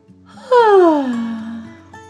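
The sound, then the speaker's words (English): A voice acts out a little bug's big yawn, a loud vocal sound that starts high and slides smoothly down into a long, drawn-out low tone, clear over a soft background. “The three friends chatted and chatted until one by one, Each little bug yawned.”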